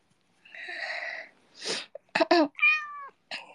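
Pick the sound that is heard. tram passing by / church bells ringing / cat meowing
cat meowing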